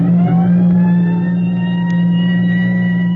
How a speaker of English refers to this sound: Start that engine.